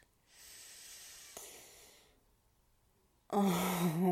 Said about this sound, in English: Oh, and that little gasp is everything.